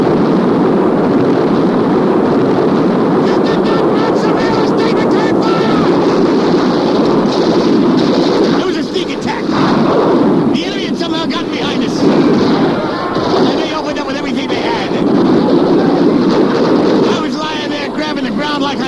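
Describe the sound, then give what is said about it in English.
A loud, unbroken battlefield roar of artillery shells bursting, the blasts blurring into a dense rumbling barrage with brief lulls, while shouting voices break through the din. “Eight-letter word for on the way. Incoming!”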